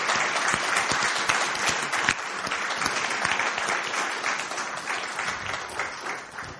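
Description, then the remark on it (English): A round of applause from a church crowd for the leaders who help in the Nest, dense overlapping claps sustained at an even, loud level for several seconds before tapering slightly at the end. “So if we could give them a round of applause, because they gave up hours of sleep.”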